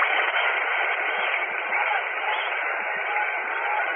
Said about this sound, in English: He has made two fine fielding plays for the Brooklyn Dodgers, and along with Pee Wee Reese has been the big fielding gun. Let's listen to the applause for him.